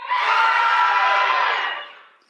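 A crowd screams together on cue after a count of three, asked to scream loud enough to be heard online, in one sustained, loud, high-pitched roar lasting about two seconds, then fades out abruptly with no talking during it.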